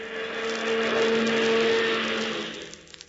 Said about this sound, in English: The chauffeur is driving one of Hubert's cars out. Gee, it's one of the big, long cars of Hubert's.